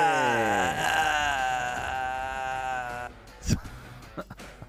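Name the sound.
goat bleating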